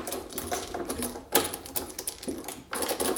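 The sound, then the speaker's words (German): A key left in the lock of a rental accommodation by the landlord rattles and turns in the door lock, a run of sharp metallic clicks and scrapes with a louder clunk partway through, no voices. “Also du kommst irgendwo hin und der Schlüssel steckt.”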